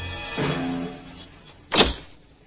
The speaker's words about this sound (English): Gripping the knob with a wrinkled hand, he turns the key in the lock, then slides home two brass deadbolts.